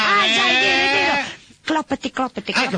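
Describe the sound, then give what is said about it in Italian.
A person imitates a horse neighing with a loud, quavering, wobbling whinny lasting over a second, followed by a short pause and then a few choppy bursts of speech. “C'era previsto anche il nitrito.”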